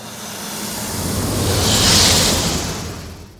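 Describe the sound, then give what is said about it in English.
A sci-fi spaceship fly-by, a version of the TIE Fighter sound built from a hissing snake sound layered over a car pass-by bass layer: a roaring rush with a bright, sibilant hiss that swells to a loud peak midway, then fades out over a low rumble. “So here's a version of the TIE Fighter sound that instead of the elephant, I played a snake sound.”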